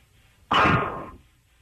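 A woman's single heavy, breathy exhale bursts in abruptly, loud and rough, then tapers off over about half a second into quiet, during the War of the Roses segment of the MRL Morning Show. No one speaks.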